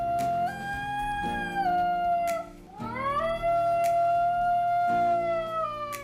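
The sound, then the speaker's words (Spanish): A Basenji dog, a breed that does not bark, lets out long, wavering yodel-like howls, the pitch sliding up and down in sustained, warbling tones, with no talking. “Hay una raza, que es la Basenji, que en vez de ladrar, emite un aullido parecido al canto tirolés.”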